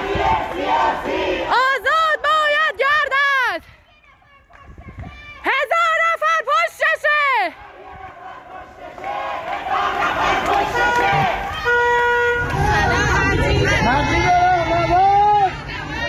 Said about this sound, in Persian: گلشهر کرج، مردم نام معترض جوان اعدام شده در مشهد را فریاد می‌زنند.